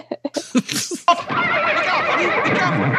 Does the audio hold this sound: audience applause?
no